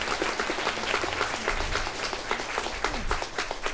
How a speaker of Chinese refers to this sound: 现在请大家给我们这些可爱的小朋友们鼓掌，谢谢他们。